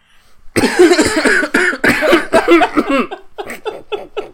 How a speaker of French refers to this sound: Attends, je tousse juste une dernière fois.